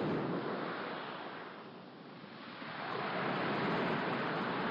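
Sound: sea waves breaking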